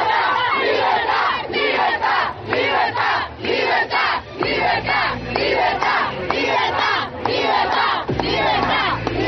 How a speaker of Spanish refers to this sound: La manifestación pacífica inició a las 10 en punto de la mañana, donde al principio había 150 manifestantes, pero al pasar de los minutos, la plaza se fue llenando hasta alcanzar los casi 400 venezolanos que unísonos gritaban ¡Libertad!